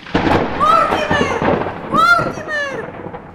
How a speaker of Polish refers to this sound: Powinieneś się wstydzić, że możesz leżeć i spać, gdy na dworze taka burza.